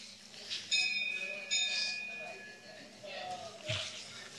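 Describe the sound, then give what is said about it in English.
A bell rings twice in quick succession, each strike leaving a bright, sustained metallic tone that fades out, with soft background noise and faint voices around it. “the only goal to actually be obtained is the Supersoul, confirmed by the bell.”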